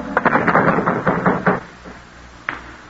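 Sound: knocking on a door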